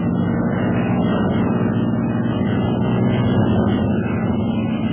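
A steady, loud airplane engine roar drones continuously with no pauses as the pilot signals with the plane's wings, a thick low hum with a rough buzzing edge holding at an even level throughout.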